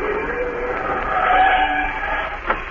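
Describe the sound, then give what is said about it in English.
A car pulls over with its tires skidding and squealing loudly against the road for about three seconds, ending with a short sharp knock as it comes to a stop. No one speaks. “They're driving alongside, Shadow. Do as you're told, Dr. Heath. Hold over there”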